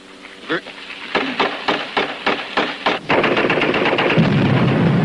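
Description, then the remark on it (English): A rapid series of sharp gunshots cracks out in a steady rhythm, then gives way to a dense, continuous roar of heavy machine-gun fire and rumbling battle noise of the 1948 war between Israel and the Arabs. “But the Arabs claimed the same land, and within hours, the infant state of Israel was at war.”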